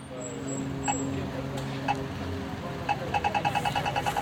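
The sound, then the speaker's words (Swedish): A steady low rumble of road traffic near the Centre for Languages and Literature in Lund, with an engine hum and a few sharp clicks, then a quick run of rhythmic ticking toward the end. “Jag tycker bra med sån här trafik som låter.”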